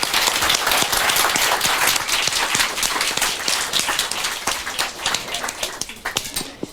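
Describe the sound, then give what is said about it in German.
A crowd applauds with dense, continuous clapping that stays loud and steady, then thins out toward the end as individual claps become more distinct. “Ich finde, das hat einen großen Applaus verdient.”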